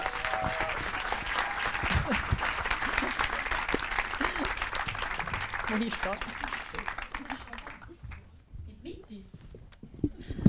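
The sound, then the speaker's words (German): An audience claps loudly and steadily for several seconds to welcome a speaker for a short keynote, a dense wash of many hands that thins out and fades near the end as a voice begins to speak. “Bitte begrüßen mit einem tosenden herzlichen Applaus.”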